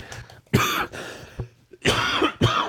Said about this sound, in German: Entschuldigung. Ich glaube, der Husten kommt von der Kälte, vom Laufen.